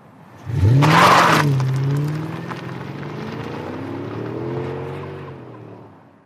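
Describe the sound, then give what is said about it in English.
An electric car accelerates hard, driven faster than the driver has ever driven, opening with a loud rushing burst and then a steady whining motor tone that climbs and holds for several seconds before cutting off. No one speaks. “I've never driven that fast, ever.”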